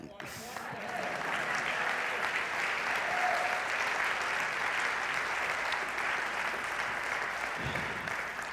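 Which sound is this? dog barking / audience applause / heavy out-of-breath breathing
audience applause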